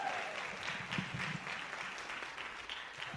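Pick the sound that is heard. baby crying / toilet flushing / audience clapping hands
audience clapping hands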